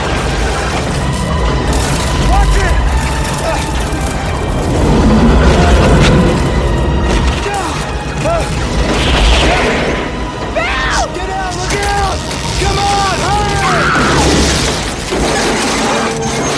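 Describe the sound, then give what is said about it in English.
Power lines explode in a storm with sharp booms, crackling bursts and shattering crashes over a steady roar of wind, while people shout and call out throughout. “So as this thing, the storm, the NATO, it's taken down power lines and the lines are exploding.”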